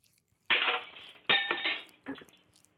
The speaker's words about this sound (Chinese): 你看你的熊样子啊，怎么把我的杯子打碎了？